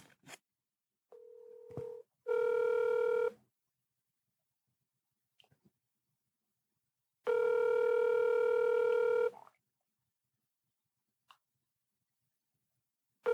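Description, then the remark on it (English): A phone line rings out on the caller's end: a short steady tone, then two loud buzzing rings separated by a long silent pause, with faint clicks between them and no talking. “And no matter the time or day, he always answers the phone the same way.”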